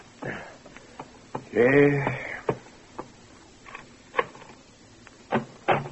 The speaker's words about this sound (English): Late the next morning, a persistent pounding on the bedroom door awakes you.